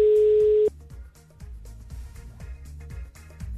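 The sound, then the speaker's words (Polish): A single loud, steady telephone ringback beep sounds on a phone line for under a second as a Radio Plus presenter calls a listener, then cuts off, leaving a quieter rhythmic music bed playing underneath. “Czekam na 5 sygnałów. Pierwszy już się pojawił, to znaczy, że ktoś ma włączony telefon i to jest bardzo dobra wiadomość.”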